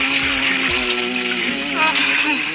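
A man hums a slow, wandering tune in a low voice, his pitch rising and falling, with a steady background hiss throughout.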